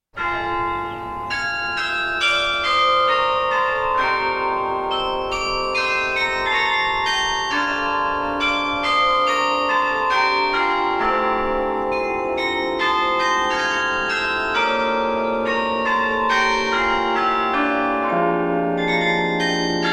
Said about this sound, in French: concert donc de carillon ce samedi soir. Je peux pas dire en la cathédrale, comme on le dit parfois, ou dans la cathédrale, Saint-Bénigne